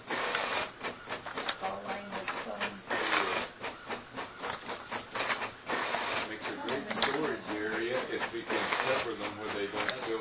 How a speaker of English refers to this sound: Okay, so, oh boy, something went wrong there with the printer.